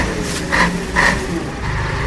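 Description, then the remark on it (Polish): Constant car traffic roar on narrow Śremska Street between buildings, where cars must stop to enter the main road, a dense low rumble with engine hum built up by resonance between the buildings, and two brief higher-pitched tonal bursts rising above it. No one speaks. “Czujesz hałas, który się potęguje poprzez rezonans między budynkami wąskiej, przypomnę, ulicy.”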